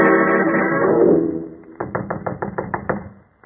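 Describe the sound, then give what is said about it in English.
A run of about eight firm knocks on a wooden cottage door at Boar's Hill, fairly loud, in a quick uneven rhythm, following a brief stretch of low rumbling background noise. “Knock once more, Watson.”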